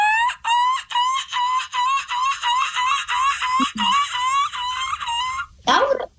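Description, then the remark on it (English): A person imitates a seagull with a long run of rapid, strained, high-pitched squawking cries in a steady pulsing rhythm, loud, ending with a short harsh burst. “we were hoping maybe we could do our seagull impressions for you guys and you determine who from our show is the best seagull”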